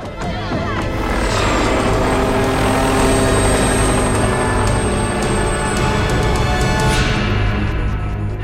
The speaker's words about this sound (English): The helicopter spins out of control.